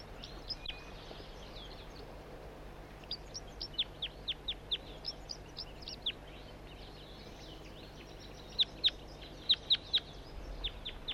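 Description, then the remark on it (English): A juvenile bird, not a red male and apparently not banded, gives a series of short, high-pitched chirping calls in uneven bursts, some faint and some sharper, over a steady low background hum with no talking. “It's recording the same bird. It's not a red male. A juvenile.”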